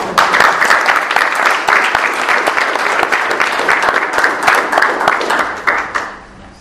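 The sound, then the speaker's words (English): An audience at the Township of Derry Municipal Building in Hershey, Pennsylvania, applauds a proclamation being handed over on October 11th, 2022: a dense, even wash of many hands clapping at once for about six seconds before it thins out and fades at the end. “And we can applaud.”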